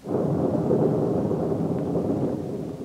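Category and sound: nature, thunder rumbling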